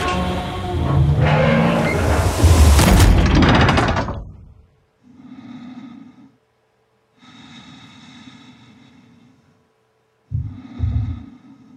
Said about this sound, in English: the door shut. This door are really ancient and heavy. It's like you've been trapped and locked in and you have nowhere else to go.